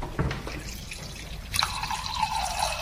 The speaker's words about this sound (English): Okay, George is just filling up the wine glass here. He's okay, I think it's almost about right. Looking good.